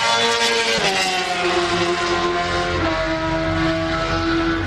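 Loud motorcycle engines drone and rev continuously, their pitch rising and falling as racing bikes pass on a race circuit in Transilvania, with a layered roar of several machines and no talking.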